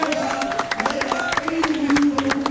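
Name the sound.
loud applause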